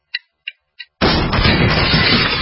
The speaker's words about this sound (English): That's what it sounds like when a burglar kicks in the door of a dark house that looks like no one is home.